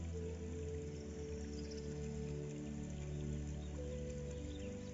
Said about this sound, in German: Mit geschlossenen Augen lässt sich das Murmeln des Baches noch intensiver erleben. Vielleicht sogar den Geschmack des Wassers schmecken.